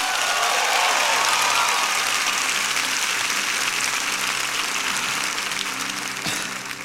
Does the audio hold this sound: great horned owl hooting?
no